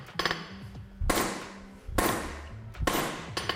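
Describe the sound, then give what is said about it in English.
A hand hammer strikes a block of wrought magnesium alloy in three sharp, loud blows about a second apart, each with a short metallic ring, plus lighter taps at the start and end. “Here we go. With the hand hammer.”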